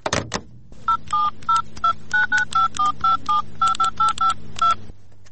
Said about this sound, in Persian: خو در دفتر خو کسی نیست. تلفنم بیکار. باش که به سمینا جان یک زنگ بزنم.